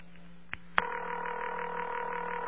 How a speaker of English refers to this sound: And then there's a little click. And then it will ring once more. And then it would answer and make the same type of clicking. Now that ring is 500 hertz modulated by 40. It's a fairly small mechanical motor system,